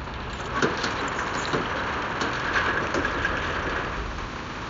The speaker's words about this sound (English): I'm gonna roll up the gate.